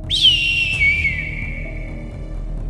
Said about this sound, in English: As you start doing that, you hear like an eagle cry.